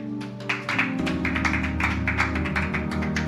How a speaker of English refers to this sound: Is that how you clap your hands for Jesus?